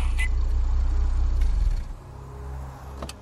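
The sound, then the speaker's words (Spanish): A car engine rumbles, then the heavy drone drops away after a couple of seconds and settles into a quieter idle, as the car arrives and parks at the entrance door. “Al llegar, encontró lugar en la puerta de entrada y estacionó allí.”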